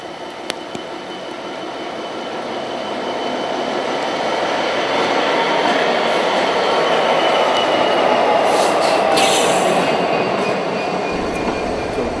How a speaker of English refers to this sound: And what you can hear behind us, apart from an idling 66, is a Class 26 arriving at the head of the last remaining Class 303 set. Pressed into service here, of course, not as an electric unit, but as a set of carriages.